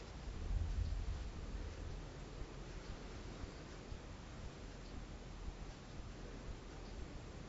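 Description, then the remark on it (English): A tiny mountain stream of clear, fresh water, high in the mountains away from human activity, ripples steadily on its own, a soft continuous wash of flowing water with no voices, fairly quiet and even throughout. “It's very fresh. Beautiful clear water. Just a rippling sound.”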